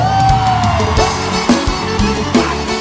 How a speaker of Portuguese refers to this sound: Quem tá feliz dá um gritão.